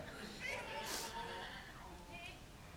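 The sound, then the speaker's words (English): A person mimics a donkey's hee-haw bray, with a couple of strained, wavering vocal bursts over a faint, noisy background, not very loud. “And a hee-haw.”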